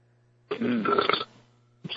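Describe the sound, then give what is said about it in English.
A loud, drawn-out burp rumbles for about three-quarters of a second, followed by a short pause and the start of a second belch, with a low steady hum in the background. “Oh, someone burped.”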